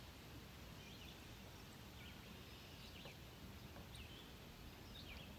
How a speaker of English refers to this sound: I hear birds singing, and I also hear them to my right.